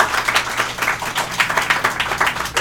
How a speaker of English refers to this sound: If you clap now, it makes us feel better.